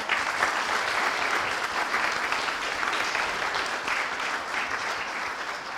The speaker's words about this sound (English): Well, thank you again for what a great performance, what a great display. All of you children, you look tired now, though, mind you. You did very, very well. So maybe you ought to give them a very big clap again.